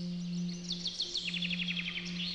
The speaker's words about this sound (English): On Saturday nights, the Vatican Gardens are left, as you may imagine, to a quiet splendour. All you can hear is the sound of the twittering of birds.